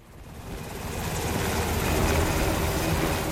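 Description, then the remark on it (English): A Black Hawk helicopter full of military officers flies overhead, dropping in on the Alaska village of Muktavik to check progress on the new village; its loud, throbbing rotor beat swells, a steady pulsing chop over a broad rush of engine noise, with no voices. “A Black Hawk helicopter full of military officers drops in on Muktavik to check on the progress for the new village.”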